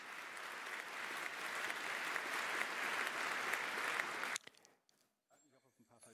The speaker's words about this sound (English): Giving him applause.